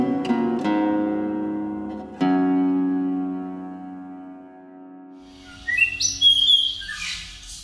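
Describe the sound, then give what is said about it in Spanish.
A few sustained, ringing musical notes fade out, then a blue mockingbird (Melanotis caerulescens), a blue-grey bird of 24 to 27 cm, sings a quick series of bright, whistled and chirping phrases over the last couple of seconds, clear. “Mulato azul, de nombre científico Melanotis cerulescens, del orden Passeriforme y de la familia Mimidae.”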